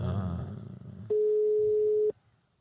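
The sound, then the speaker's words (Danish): A single loud, steady telephone ringing tone lasts about a second, coming after a stretch of low, muffled background noise, then cuts off to near quiet. “hvad fanden ringer du nu til?”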